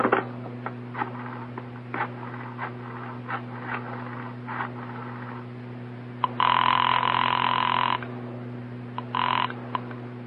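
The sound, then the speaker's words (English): A telephone is dialed with a run of quick rotary clicks, then an earpiece ringback tone sounds in a long burst followed by a shorter one, over a steady low hum. “May I use your phone?”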